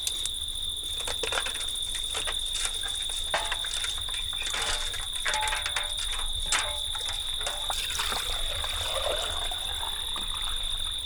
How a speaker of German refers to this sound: Ich schöpf jetzt mal Wasser herauf. Lässt du mich mal?